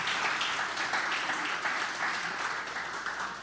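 A crowd applauds steadily, a dense wash of many hands clapping at once, loud and sustained throughout with no voices standing out.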